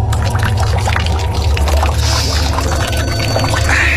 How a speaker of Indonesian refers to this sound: Aku menuju tempat wudhu dan mengambil air untuk cuci muka.